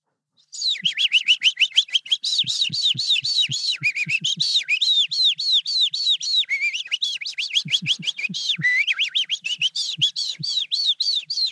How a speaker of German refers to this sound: Die Feldlerche.